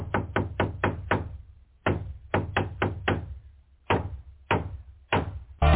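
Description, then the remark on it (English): A hammer strikes sharply over and over: a quick burst of five hits, a short pause, another five, then slower single blows. Each is a hard, ringing knock with no voices. “If the line is perfect, like the line does not have any adjusting, so every one of these is going to have a hammer in beginning, so just bear with it.”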